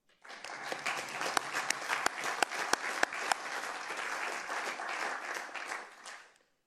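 A crowd applauds steadily for about six seconds, a dense wash of clapping with a few sharp, louder claps standing out, then fading quickly at the end.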